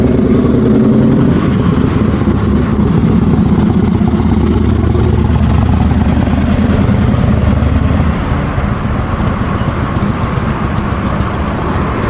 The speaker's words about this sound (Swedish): Ja, ni hör själva när man kommer ut här på gatan bredvid. Framför järnvägsstationen där. Ganska stort pådrag med bilism.